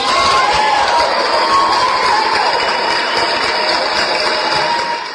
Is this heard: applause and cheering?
yes